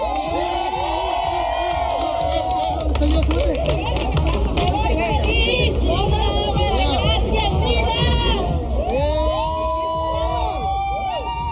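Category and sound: crowd, crowd shouting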